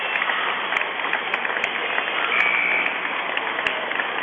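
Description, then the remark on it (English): Steady applause from Minden fans at a basketball game during a quick 30-second timeout, after a player scores a low bucket; a dense wash of clapping that holds at an even level throughout with a few sharper claps poking out, and a faint whistle-like tone partway through. “So a nice round of applause, a quick 30-second timeout.”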